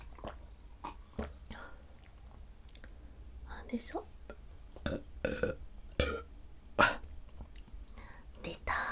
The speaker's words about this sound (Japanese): 恥ずかしい。普通にむせた。ごめんね、うるさいね。